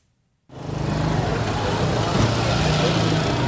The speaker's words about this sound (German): Eine Straßenkreuzung in Kenias Hauptstadt Nairobi. Hier warten die Fahrer von einfachen Taxis auf Kunden. Kaum ein Auto ist jünger als 10 Jahre.